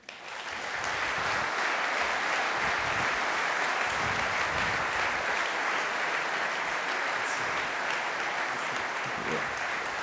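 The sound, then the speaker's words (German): Loud, sustained applause from a large audience as the winners of the Technology Innovation Award 2012 are called onto the stage; dense, even clapping for the full stretch without letting up, with no voices standing out above it. “Voilà, und jetzt wollen wir aber die Kandidaten noch auf der Bühne sehen, mit einem bitte tosenden Applaus.”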